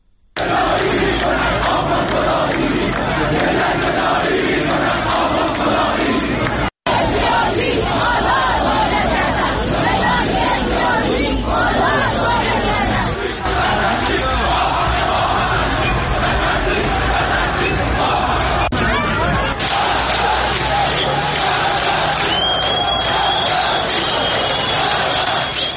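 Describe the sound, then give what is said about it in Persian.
A large protest crowd chants and shouts continuously, loud massed voices rising in rhythmic calls over a constant roar of babble, with a brief cut partway through. It is a protest demonstration, one of those held in cities including Isfahan, Quchan, Rasht, Qom, Qazvin, Hamadan, Sari, Kermanshah and Khorramabad. “در پی تظاهرات اعتراضی روز گذشته در مشهد، نیشابور، کاشمر و شاهرود، امروز نیز تظاهرات اعتراضی در شهرهای اصفهان، قوچان، رشت، قم، قزوین، همدان، ساری، کرمانشاه و خرم‌آباد برگزار شد.”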